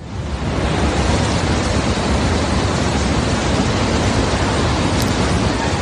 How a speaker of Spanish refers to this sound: Así suena el agua que estaba embalsada en la presa ucraniana de Kayovka. Es una presa que está situada en el sur, en el río Dnieper, famoso río Dnieper porque está siendo el límite del frente en la guerra de Ucrania, en la parte sur del país.